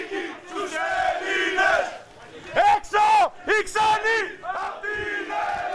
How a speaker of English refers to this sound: Outside, party members marched and shouted, Greece is for Greeks. Get out, foreigners.